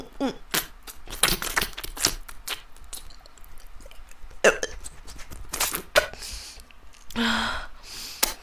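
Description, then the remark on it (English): Wet slurping and gagging noises of oral sex, arriving in irregular bursts with sharp clicks and throaty gasps, at moderate loudness with no talking. “I can feel you throb with every slurp and gag.”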